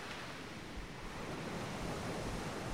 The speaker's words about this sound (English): You can hear the sounds of the ocean, the gentle splashing and the ebb and flow of the waves as they roll in and then retreat back into the sea.